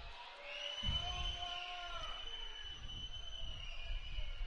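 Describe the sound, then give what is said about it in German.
A stadium crowd at a football match between Wiedenbrück and WSV whistles loudly at time-wasting, many shrill, sustained tones overlapping and wavering in pitch above a steady roar of crowd noise, continuing throughout. “Ja, Pfiffe, Zeitspiel.”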